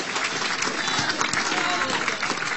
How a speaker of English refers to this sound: Somebody holler, clap those hands. And celebrate the Lord.